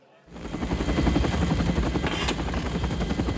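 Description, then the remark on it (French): Loud, steady thudding of military helicopter rotors in the film Apocalypse Now fades in and then drones on, a dense rhythmic chop with a rushing engine roar, as if several aircraft are flying overhead. “Voici donc Apocalypse Now, et donc là on arrive avec le chef qui demande aux hélicos de mettre le son à fond.”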